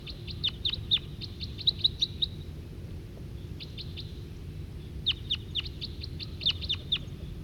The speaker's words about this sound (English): And that's the wild male giving calls, and he's nearer now. Obviously attracted by 40 and 5'7 who I put on the ground in the middle of the parking lot.